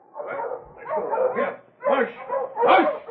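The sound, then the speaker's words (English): Hungry dogs bark and yelp excitedly in a run of four fairly loud bursts, with brief pauses between them and no other sounds around. “I got to get these furs unpacked and feed the dogs. They're hungry.”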